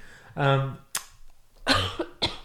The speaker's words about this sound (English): I'm really sorry, you guys. I know it's so annoying to hear coughs. There's nothing worse.